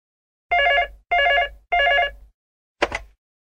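A telephone rings three times in steady, even bursts, clear, followed by a short click like a receiver being picked up, as a university student phones a landlord about a room to rent.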